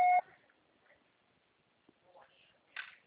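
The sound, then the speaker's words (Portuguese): A single short, loud electronic beep like a voicemail recording tone sounds at the very start, then quiet follows with a few faint, muffled voice-like sounds in the background. “Grave seu recado agora.”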